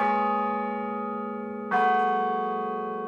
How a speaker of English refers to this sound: The ringing of bells is common enough. But not all bell sounds are made the same way.